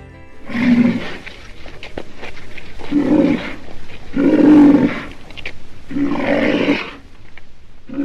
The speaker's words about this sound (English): Sound there of a black rhino's grunting roar.